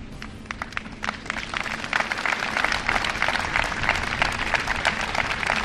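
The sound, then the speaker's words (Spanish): A crowd in Aragon, Spain breaks into applause ending a minute of silence for the victims of a tragedy; scattered claps at first quickly building into steady, dense clapping from many people, with no talking. “Un minuto de silencio que ha finalizado con aplausos.”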